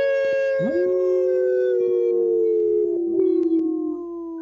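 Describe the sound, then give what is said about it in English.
Several voices imitate wolves on a radio show segment brought by Howling for Wolves, howling together in long, sustained, wavering tones that rise and slowly fall, layered into a loud chorus lasting several seconds with no talking. “Thanks so much for howling.”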